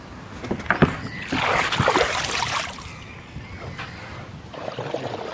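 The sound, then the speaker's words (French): People climb into a small river boat: a few wooden knocks and thumps, then a rush of water sloshing and splashing against the hull, settling to a gentle lapping. “Allez-y, montez, installez-vous. On peut vous mettre la dernière planche, là-bas.”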